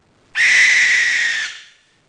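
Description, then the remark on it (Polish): A single owl call rings out on its own at night, a loud, harsh, drawn-out screech that starts abruptly, holds for over a second and then trails off into silence. “Tak, za te wszystkie zimne noce, które spędziliśmy na przykład na cmentarzu w poszukiwaniu sowy, która wreszcie łaskawie raczyła się odezwać.”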